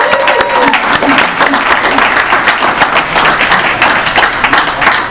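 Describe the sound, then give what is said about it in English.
An audience at a meeting applauds two speakers loudly and steadily, a dense wash of many hands clapping that holds at an even level for about five seconds, with a few faint voices mixed in. “All right, family, let's give both of these speakers another applause real quick.”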